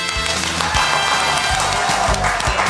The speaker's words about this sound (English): Perfect. I have them so well trained. I won't give them any food unless they clap at the right time. It is a wonderful thing. We're broadcasting live this morning, a live audience, an applauding audience here at the Pike Nursery in Peachtree City